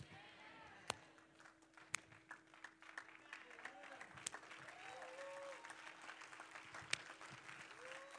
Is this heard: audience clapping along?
yes